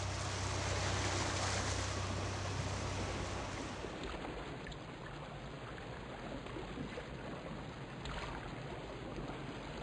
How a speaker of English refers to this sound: The group is now on the boat that will take them to the last island of their tour, Taransay.